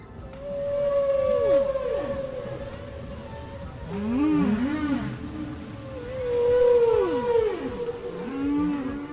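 Whale calls: a series of long, wavering moans that swoop down and back up in pitch, layered with higher chirping sweeps over a steady underwater hiss, with no talking.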